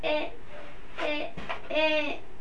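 A toddler vocalizes in three short, high-pitched, sing-song bursts, with a brief pause between each, in an otherwise quiet room.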